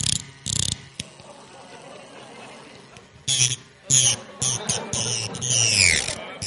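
A dentist's drill drilling a tooth whirs in short, intermittent bursts, its high whine rising and dropping in pitch, ending in a longer, louder stretch with a gliding, descending tone.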